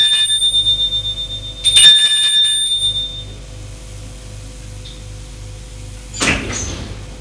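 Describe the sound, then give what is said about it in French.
A doorbell at the right-hand door on the second floor of a well-to-do apartment building rings with a steady, high metallic tone over a pulsing low hum, then fades, followed by a brief clunk like a door near the end. “Porte droite, il sonne.”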